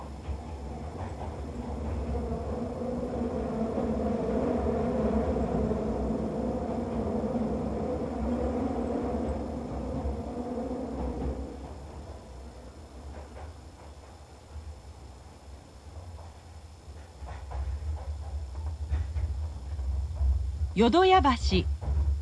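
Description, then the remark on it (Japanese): A train rumbles steadily along with a droning motor hum as it passes through a curve, then near the end a sharp, wavering metallic squeal rises briefly above the low rolling noise. “電車がカーブを通過します。”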